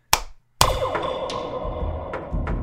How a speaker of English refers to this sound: I'm going to give you three claps. I don't know if you need that, but just...